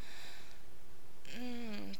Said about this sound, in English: Taking my breath away, my breath becoming yours. Yours becoming mine. We're panting.